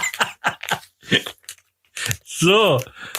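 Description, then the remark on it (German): A person eating makes several crunchy chewing and biting bursts in an irregular rhythm, fairly loud, followed by a short voiced sound whose pitch rises and falls. “Was machst du denn da schon wieder Geräusche? Ich habe hier eine, ich war gerade essen und ich habe Ketchup bestellt”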